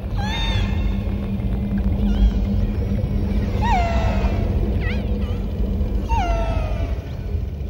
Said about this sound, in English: These are orcas in a recording we got from Disney Nature Soundscapes.